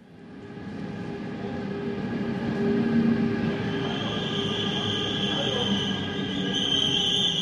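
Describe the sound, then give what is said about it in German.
An S-Bahn commuter train with new low-floor double-deck cars rolls into the station in Zürich with a continuous low rumble, rising slightly, while high metallic wheel squeals and hissing tones ring out near the end, fairly loud. “Die S-Bahn mit dem neuen Niederflur-Doppelstockwagen fährt im Bahnhof Zürich ein und sorgt auf den ersten Blick für eine kleine Enttäuschung.”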